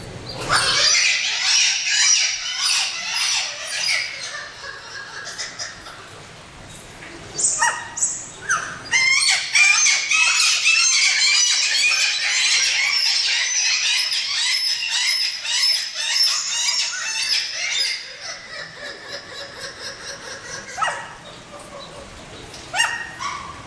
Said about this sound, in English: Red-legged kittiwakes are the only species of gull in our aviary and are known for their vocalizations.